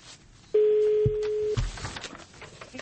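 A single steady telephone ringing tone on a call placed by the radio station Echo of Moscow, a loud mid-pitched beep lasting about a second, rises out of low background noise and then cuts off, with muffled rustling and noise following.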